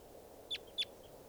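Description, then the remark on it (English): A flock of birds gives two short, sharp, high-pitched call notes, about a third of a second apart, sounding like type 2 calls, over a steady low background rumble; no one speaks. “Good numbers of birds. Sound all like type 2 stuff.”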